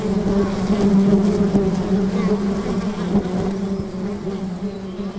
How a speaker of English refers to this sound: They form them when they're moving to a new nest. You may have seen them hanging in trees. As you get closer, you can see the bees clinging onto each other in a hanging, writhing swarm.